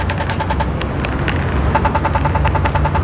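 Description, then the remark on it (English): An accessible pedestrian crossing signal button ticks repeatedly in a quick, steady rhythm, clear above a constant low rumble of passing traffic. “This button's easy to hear, but let's say it wasn't.”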